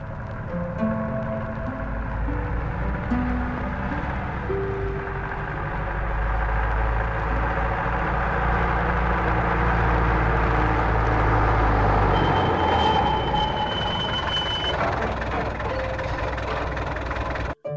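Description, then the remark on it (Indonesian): A big truck's engine idles in front of a house with a steady, loud low rumble for the whole stretch, its pitch shifting slightly now and then as if the revs are nudged. “Saat turun dari truk, seorang tetangganya menyapa.”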